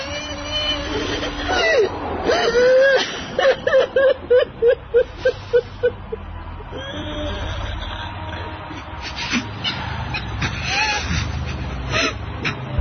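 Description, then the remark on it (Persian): A person cries and whimpers in a series of short, rhythmic sobbing bursts, fairly loud, with muffled voices and background murmur continuing around it. “گریه کن عزیزم، یه خورده گریه کن تا حالت بهتر بشه.”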